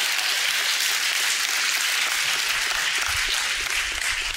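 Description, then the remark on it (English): An audience applauds in a steady, dense wash of clapping that holds at an even, fairly loud level throughout, with no single claps standing out and a low rumble joining near the end. “I think that should go like clap, clap, clap, clap, clap.”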